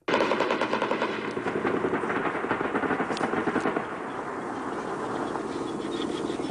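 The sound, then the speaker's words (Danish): Sustained rapid automatic gunfire from aircraft and a helicopter firing on the Taliban at night, a dense rattling burst that continues throughout, with heavy low rumbling impacts underneath as the bombing hits. No one speaks. “Man kan høre, at han affyrer, man kan høre, at han rammer.”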